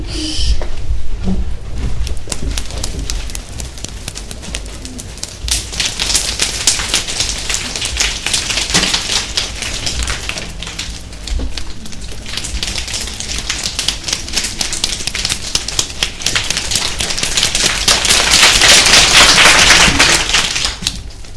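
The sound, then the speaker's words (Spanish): A group of people imitates rain with their hands: dense, rapid patters of taps and claps that swell into a loud downpour, ease off, then build again, with no talking. “Y ahora vamos a intentar simular una lluvia”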